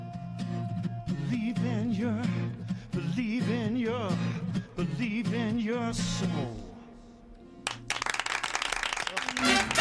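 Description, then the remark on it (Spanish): Staff burst into loud, dense applause near the end, following several seconds of voices with harmonic, sing-song tones. The clapping is sustained to the finish. “Con aplausos, te he recibido el personal”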